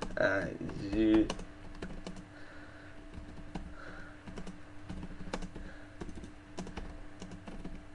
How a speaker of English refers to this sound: I will type the dirty version into the chat room.